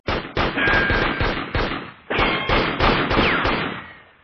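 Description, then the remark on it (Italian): A loud volley of gunfire: eight or nine sharp shots in quick, uneven succession, each cracking over a rolling, echoing rumble that never quite dies away. No voices. “ci fu uno scoppio di spari di armi da fuoco e un grido.”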